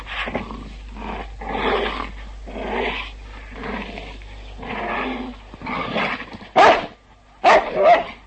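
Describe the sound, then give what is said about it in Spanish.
A huge black dog growls menacingly behind a man, a steady run of rough, rumbling snarls that ends in two louder, sharper outbursts. No one is talking. “De repente escuchó detrás de sí un amenazador gruñido.”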